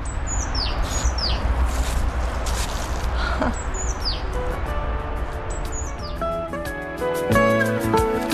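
Small birds chirp repeatedly outdoors in the cemetery where Vuk Karadžić once lay buried, quick descending tweets recurring throughout over a steady background hum, with a brighter tonal layer joining toward the end.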